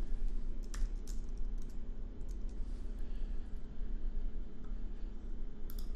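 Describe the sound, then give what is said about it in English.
Quiet, irregular typing on a computer keyboard, with scattered light clicks over a steady low hum, faint, with no voices. The typist is working with two keyboards set up together. “So I might make some errors in terms of which keyboard I'm typing on as we go here.”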